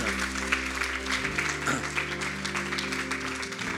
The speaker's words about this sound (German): Applaus für dich.